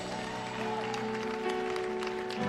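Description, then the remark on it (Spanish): An audience at a worship service breaks into steady, dense applause for the living King, many hands clapping at once over sustained organ or keyboard chords that hum underneath throughout. “Vamos, ¿cuántos pueden darle un aplauso a Rey que vive?”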